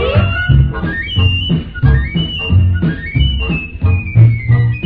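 A piccolo plays a high, tweeting melody of gliding, sliding notes over a steady, rhythmic band accompaniment with thumping low beats.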